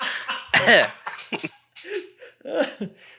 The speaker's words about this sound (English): So just cough. That'll be your intro.